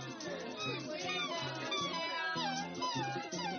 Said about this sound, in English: That's my wiener dog.